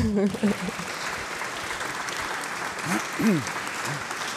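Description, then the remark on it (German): A sold-out audience applauds steadily for several seconds, a dense wash of clapping at even loudness, with a few voices calling out or cheering briefly over it near the start and middle. “An dieser Stelle habe ich eigentlich mit Applaus gerechnet.”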